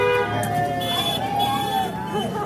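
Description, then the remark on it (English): Car horns honk steadily over passing traffic at a Bernie Sanders supporters' rally in a tiny mountain village in New York, where kids and parents hold signs urging passing cars to honk; sustained tones overlap with a murmur of people talking and cheering in the background. “A crowd of kids with their parents hold signs urging passing cars to honk.”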